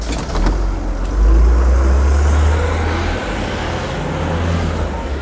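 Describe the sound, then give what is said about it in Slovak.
A bus to Štós drives steadily, its deep engine rumble swelling briefly as it accelerates, then settling into a continuous low drone with faint rattling, no voices present. “Povedal Kaško a už kráčali na stanicu, z ktorej ich o pár minút odviezol autobus do štosu.”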